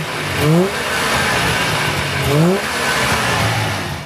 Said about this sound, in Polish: Tak pracuje Syrenka Bosto.